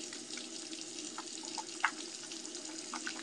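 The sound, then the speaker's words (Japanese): Water runs steadily from a tap in a steady wash of hiss, with a few soft, wet squelching bursts as face wash lather is worked up by hand for washing the face. No voices. “ぐちゅぐちゅ言ってる。あー、すっごい、あー、すっごいぐちゅぐちゅ。”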